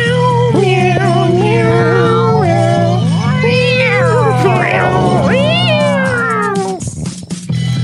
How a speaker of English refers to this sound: Meow.